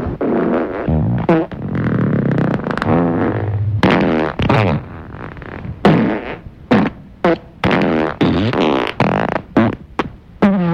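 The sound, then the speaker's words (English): A long, loud run of farts, buzzy and sputtering, some drawn out and others short and choppy, firing off in quick succession with no talking. “Would it shock you to know that the average human farts 14 times a day, and that you are the most super farting human ever?”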